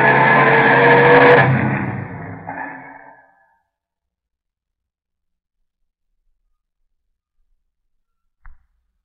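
A car roars past at speed, driving in a hurry to the docks, loud for about three seconds before fading away quickly, followed by silence and a brief faint click near the end.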